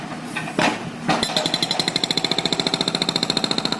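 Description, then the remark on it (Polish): A jackhammer pounds at a road construction and repair site in a rapid, steady staccato after a couple of sharp bangs, loud, its metallic rattling bursts repeating without pause. “Wiadomo, że droga jest w budowie, w remoncie.”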